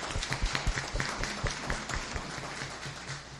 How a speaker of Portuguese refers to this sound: Então, eu queria que todo mundo desse uma salva de palmas para ele, que ele merece.